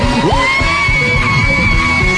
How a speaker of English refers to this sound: Let me hear you scream.